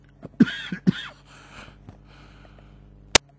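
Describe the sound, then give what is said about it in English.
Two harsh coughs in quick succession, followed by a breathy wheeze and quiet room tone, with a single sharp click near the end. “Yes, sorry for that cough.”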